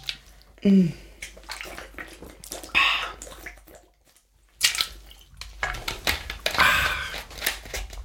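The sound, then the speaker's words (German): Water splashes and gurgles in uneven bursts as it is poured into a glass, with a few clinks and a brief pause midway, then a second splashy pour. “Na gut, ich trinke jetzt mal ein Wasser.”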